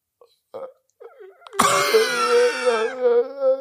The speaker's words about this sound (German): Gähnen ist bei mir das Krasseste.